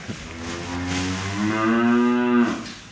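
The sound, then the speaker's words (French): A single long, loud moo from a Prim'Holstein dairy cow in a cubicle dairy barn on a farm milking 130 cows, a low droning bellow with a rich harmonic tone that swells and holds for nearly three seconds before fading, with no talking. “C'est quoi comme race de vache ? C'est des Primolstein.”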